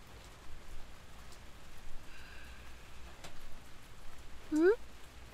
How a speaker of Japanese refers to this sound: ほい、傘持ってきたよ。急な雨だもんね。持ってないのも仕方ないわ。